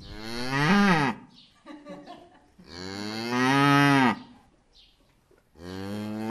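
A cow moos three times, long, loud, drawn-out lows separated by short pauses, the last one cut off at the end. No one speaks.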